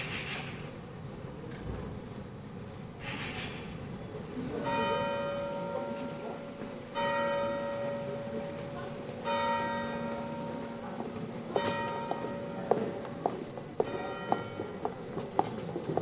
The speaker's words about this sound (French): Tendez l'oreille. Vous allez entendre une pie qui jacasse sur votre gauche, puis le cloche de l'église à droite, et des pas sur la chaussée.